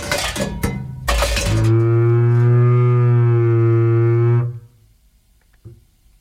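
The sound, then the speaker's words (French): A cow lets out one long, low, drawn-out moo lasting about three seconds at the end of a song, preceded by a few sharp clattering knocks, then trailing off into near silence. “C'est sur ce dernier meuglement de bovins, de vaches, que le titre...”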